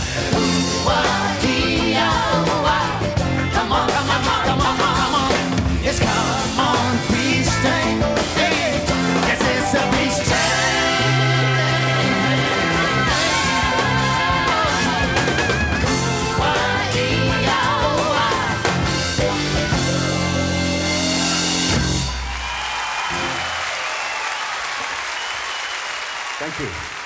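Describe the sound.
A live folk song with voice and instruments plays at full volume, then stops abruptly and gives way to several seconds of steady crowd applause.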